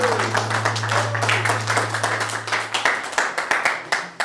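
Audience applause: a dense patter of many hands clapping at a steady level, thinning toward the end into fewer, sharper individual claps, with a low steady hum beneath for most of it.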